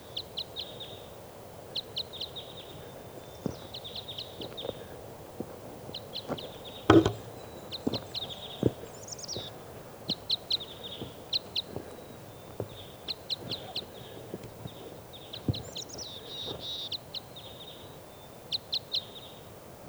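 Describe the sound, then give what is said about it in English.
Type 5 crossbill calls recorded at 5:07 a.m.: short, sharp, high-pitched kip notes repeated in quick bursts throughout, over a low background rumble with scattered soft knocks and one louder thump midway. “recording our crossbills here now.”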